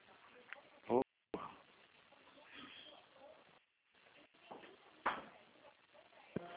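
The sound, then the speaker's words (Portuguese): A door is shut with a sharp knock about a second in, then a second bump later, over muffled background voices and shuffling movement. “Ai, meu pai, esse vidro gelado aqui, fecha a porta.”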